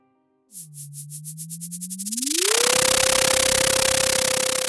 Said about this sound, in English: Let's listen to some data from an echo sounder on the same buoy in the North Pacific Ocean and see if we can hear the daily movement of zooplankton in the ocean. In our data sonification, this is what zooplankton swimming upward sounds like.